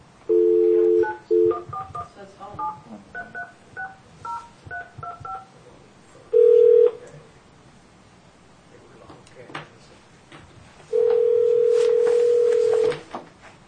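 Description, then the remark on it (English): A phone line's dial tone gives way to a quick string of touch-tone keypad beeps as Taney County Board of Equalization staff dial a second, local number, then a long ringback tone sounds twice with a pause between, clear. “We have another number here, so we will try that.”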